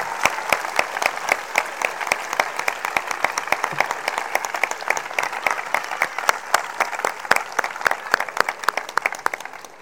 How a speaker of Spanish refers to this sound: que dan hoy por finalizado su espléndido reinado y a las que quiero que despidamos con una gran ovación. Muchas gracias.